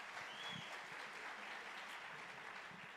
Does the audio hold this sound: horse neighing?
no